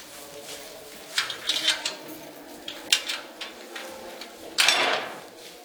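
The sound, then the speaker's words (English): A door leading down into an underground maze is pushed open with a series of scraping knocks and rattles, ending in a louder grinding scrape near the end. The doors open barely enough to squeeze through. No one speaks. “When the doors, you can barely squeeze through.”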